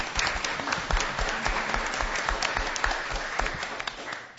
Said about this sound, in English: And would any board members please stand? Just wave, and we will applaud you.